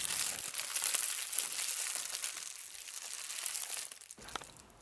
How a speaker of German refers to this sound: Tief in einer Höhle knisterte ein warmes Feuer.